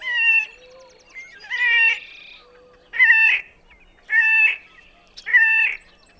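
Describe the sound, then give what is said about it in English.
A horned grebe gives a series of five loud, harsh, nasal squealing calls at a steady pace, each about half a second long, with no one talking. “All right, let's move on to the horned grebe as we close out our marine forecast.”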